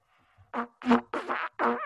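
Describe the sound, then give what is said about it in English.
Four short, buzzy blasts on a three-valve trumpet in a row, rough and a little sputtering, each a brassy mid-low note of slightly different length, played alone without talking. “the three valves on the trumpet, it's not like a trumpet only plays three notes.”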